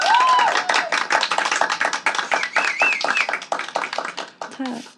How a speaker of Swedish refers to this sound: Kan jag få en applåd för det?